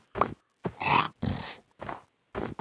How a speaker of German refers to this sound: Also Schweine habe ich gefunden.